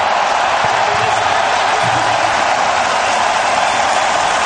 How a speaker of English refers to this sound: And a suitably euphoric response from the crowd here in the arena.